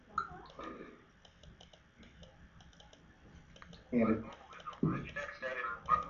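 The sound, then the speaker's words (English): Small, crisp clicks from the little button on the side of a device being pressed to start Word Mobile, repeating in a quick irregular patter, with muffled talking rising louder toward the end. “But when I'm ready to roll and take notes, and I want to just use Microsoft Word to do that, or Word Mobile, I'll press this little button on the side, start Word Mobile.”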